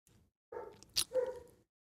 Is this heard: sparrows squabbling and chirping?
no